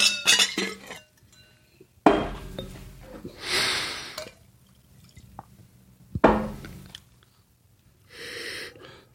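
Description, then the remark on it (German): A wine glass is swirled and rinsed with water, with splashing and dripping bursts broken by brief glassy clinks, fairly quiet, with no talking. “Das Glas ausspülen hier.”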